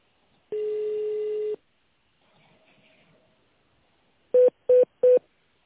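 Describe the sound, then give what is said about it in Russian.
A long steady electronic beep, a brief faint murmur, then three short, evenly spaced touch-tone key presses as an extension number is dialed on a telephone keypad during a call to the company Tsirkonservis. “Для соединения с абонентом наберите внутренний номер или дождитесь ответа секретаря.”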